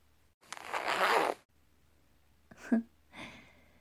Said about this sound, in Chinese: 好了，小帅哥，来，帮我把靴子拉链拉下来。Oh no，要用嘴拉。